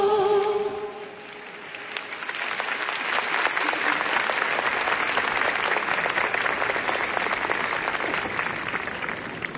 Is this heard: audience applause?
yes